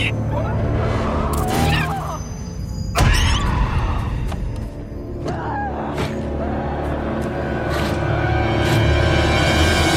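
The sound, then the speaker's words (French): A pick-up truck engine idles steadily in a small courtyard, spitting a little grey smoke, a low continuous rumble, with a few sharp clunks and rattles breaking in along the way. “Le moteur du pick-up résonne dans la petite cour, crachant un peu de fumée grise”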